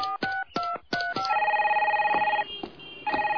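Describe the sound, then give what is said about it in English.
A car phone rings insistently, with three quick electronic bursts followed by a sustained warbling trill, loud with no voices. “Das Wagenphone ist eine Nuisance-Phone.”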